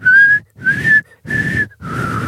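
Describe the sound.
A person whistles a short four-note tune, each note held briefly with small gaps between, the last note lower and breathier, with no talking over it.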